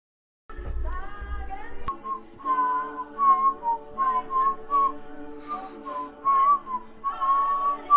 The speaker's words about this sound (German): Ich weiß nicht, wie lange der noch pfeift.